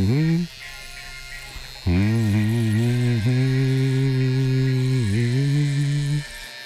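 An electric razor buzzes in a short burst, falls quiet for a moment, then runs again in a longer steady drone whose pitch dips briefly a couple of times.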